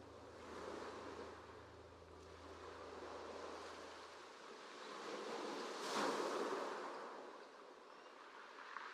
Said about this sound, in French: Le sentier vous a conduit sur une belle plage de sable, logée au cœur d'une petite crique déserte. Vous descendez au bord de l'eau, et laissez le ressac venir lécher vos pieds.